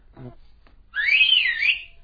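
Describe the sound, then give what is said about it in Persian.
A single sustained whistle, clear and fairly loud, gliding up and then dipping and rising again for under a second, preceded by a brief low vocal sound. “چی سوت میزنه؟”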